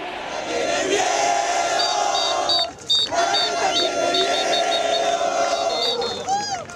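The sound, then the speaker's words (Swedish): A large crowd in Buenos Aires roars loudly and continuously after Sergio Massa says in a live speech that Javier Milei has won the election, a dense wall of cheering voices with high whistles piercing through, dipping briefly before surging back just as strong. “Och det utbryter ett sånt vrål.”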